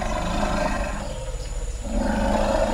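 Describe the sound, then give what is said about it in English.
Deep, loud elephant greeting rumbles roll on continuously, overlapping one another, easing briefly in the middle before swelling back up. No one speaks. “Again, Peter Regg, and he says these rumbles, these are a perfect example of elephant language.”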